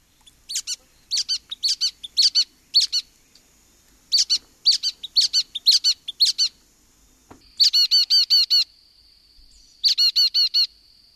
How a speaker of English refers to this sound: Many of them do spend part of their time in North Carolina. One of the most ubiquitous is the brown-headed nuthatch, which sounds just like this.